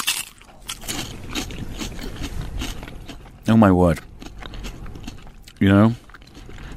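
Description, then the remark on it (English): Crisp crunching of someone biting into and chewing fried fish and chips, a steady crackly texture, followed by two loud, drawn-out vocal exclamations of delight. “Let's take a little bite together.”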